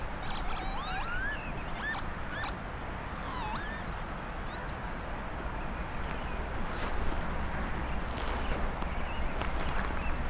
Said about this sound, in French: Je sais pas tout à fait quels sont ces oiseaux. Mais alors le son qu'il dégage, je le trouve personnellement merveilleux.